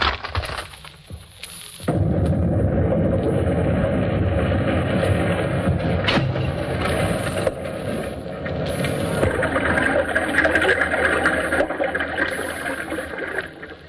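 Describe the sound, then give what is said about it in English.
A comedic sound effect of the Colonel opening a bottle of beer during a commercial on the Stoopnagel Stump Club program, produced by smashing fruit tills, an explosion record and crashing glass panes: after a brief quieter start, a loud, dense din of clattering, crashing and rumbling with glassy breaking noises, sustained for about twelve seconds. “A comedy sound effect was used. The Colonel opening the bottle of beer sounded like this.”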